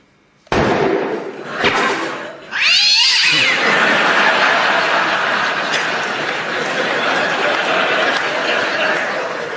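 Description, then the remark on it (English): A theatre cat named Lucky lets out a loud caterwauling yowl with rising and falling wails, following a sharp bang and set against a constant rushing, clattering noise that continues to the end. “I'm sorry, but that cat was really getting on my nerves. It's a theatre cat.”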